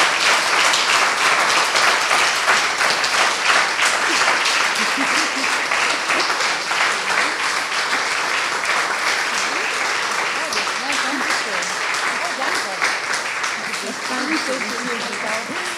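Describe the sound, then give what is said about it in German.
Sustained applause from an audience thanking two speakers at a stage event, a dense wash of many hands clapping at steady loudness for about sixteen seconds, with faint voices murmuring underneath. “Aber vielleicht, ja, vielleicht einen dicken Applaus von euch.”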